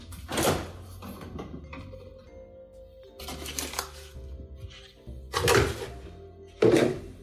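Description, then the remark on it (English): A fridge door is handled as dairy is taken out, with four dull, fairly loud thunks and clatters spaced a couple of seconds apart, and a low steady hum and faint rustling in between. No one speaks. “And I will grab my dairy out of the fridge.”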